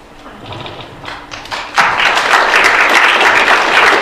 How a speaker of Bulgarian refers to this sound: Благодаря, доктор Танков. За вас ще има аплодисменти, за мен нямаше.